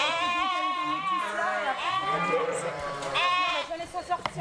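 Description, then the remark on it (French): A ewe bleats loudly, several long wavering cries following one another with barely a pause, each call rising and trembling before trailing off. “Bon, bah, si une brebis qui se met à gueuler à 23h, on part pas à 23h, quand on partira quand elle aura fini.”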